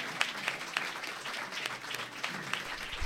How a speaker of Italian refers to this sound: Grazie ancora, grazie dell'applauso.